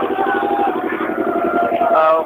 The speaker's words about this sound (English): We just wait for the boat because there's the engine over here where we're standing. Making a lot of noise